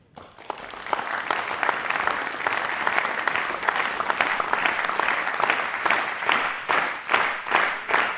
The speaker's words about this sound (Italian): voglio provare a fare un esperimento con voi, ho bisogno di un po' di luce perché sarebbe utile che vi vedeste, e vorrei chiedervi un applauso, però un applauso particolare, vorrei che provaste a sincronizzare i vostri battiti. Provate.